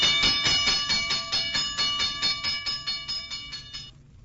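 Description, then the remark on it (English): A modern fire alarm rings rapidly and loudly, about four metallic strikes per second at a steady pitch, continuing for roughly four seconds before stopping abruptly. No voices are heard. “But the signal warning of a fire did not always sound like that.”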